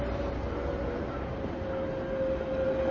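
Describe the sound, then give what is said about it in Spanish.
A steady rolling rumble of two trams moving along a street, with a sustained metallic whine held throughout, continuous and moderately loud, with no voices. “Al fondo, dos tranvías circulan por una calle.”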